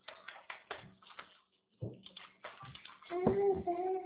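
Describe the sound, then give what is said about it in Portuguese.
Water splashes and trickles as it's poured into a small toy bathtub, in short uneven bursts with a brief pause, and a child's voice joins near the end. “Filha, não é só pra você colocar água.”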